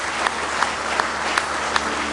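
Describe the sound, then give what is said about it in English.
An audience claps hands in praise to the Lord during a morning service, a dense, steady wash of applause with sharper unison claps popping out roughly every half second in a rhythmic beat. No one speaks. “Go ahead and give the Lord a good hand clap of praise this morning.”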